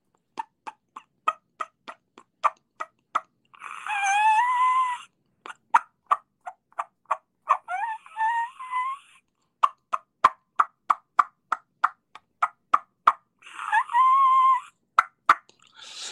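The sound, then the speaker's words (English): A diaphragm turkey call imitates a hen's mating squeal: three loud, wavering high-pitched squeals, each about a second long, separated by rapid runs of sharp, clicking clucks. “It's like I'll do it with a diaphragm. And again, it's prior to the mating squeal of the squealing hen.”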